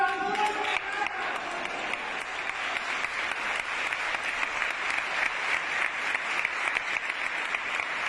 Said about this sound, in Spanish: Los aplausos de todos los hermanos del Nazareno, una vez que todo ese cabildo entero, con una iglesia, como dice Iván, con gente hasta la puerta, levantaba su mano para aprobar esa coronación canónica.